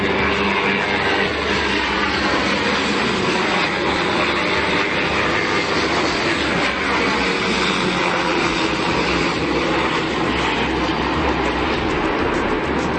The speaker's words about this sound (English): That is two helicopters flying above or flying through downtown Chicago. It's 9:30 at night. They don't even have lights on. So weird. They were lower than my buildings. They were definitely military, and there were definitely guys with machine guns.